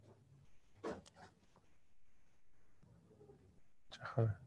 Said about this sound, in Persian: کلاغه؟ کلاغ اومده تو کلاغ هم داره.